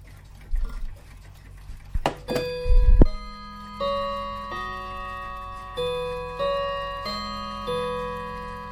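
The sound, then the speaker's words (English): A few mechanical clicks and knocks, then a clock chime strikes a melody of about eight ringing bell tones at a steady pace, each note clear and resonant, fading into the next. “I'll let a chime though, because it's a lovely chime.”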